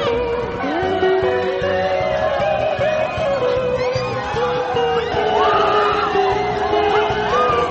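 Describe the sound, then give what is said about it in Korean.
A crowd of neatly dressed riders on the Paegunhye ride at Kaeson Youth Park in Pyongyang, North Korea, screams and whoops continuously and loudly in fright, with overlapping shrieks rising and falling over a low mechanical rumble throughout. “이 동영상을 보면 점잖게 차려입은 사람들이 백은혜를 타고는 겁에 질려서 비명을 지르는 재미있는 모습도 보이고요.”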